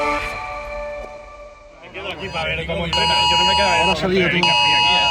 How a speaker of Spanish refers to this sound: Esto que escuchan es el sonido del día en Chattanooga, la alerta en los móviles de la prensa que estábamos en la grada esperando el entrenamiento de recuperación de la selección en la Baylor School.